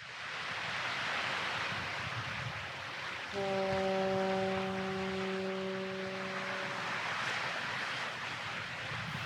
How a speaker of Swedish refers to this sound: Mistluren tutar över Öresund